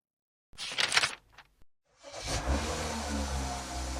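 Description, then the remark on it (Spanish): A few sharp, brief clunks, then after a short pause a car engine turns over and settles into a steady, loud, low rumble that continues to the end. No one speaks. “El carro. The car.”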